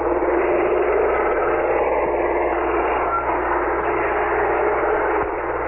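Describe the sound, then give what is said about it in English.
Helicopters flying overhead, making another pass as New York State troopers and police storm a prison, make a loud, steady roar with a constant low hum beneath, unbroken for the whole stretch and with no voices over it. “Can you hear the helicopters making another pass?”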